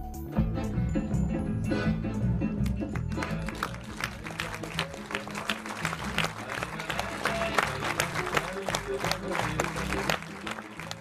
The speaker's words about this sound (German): Beifall für den neuen Dokumentarfilm von Markéta Nešlehová.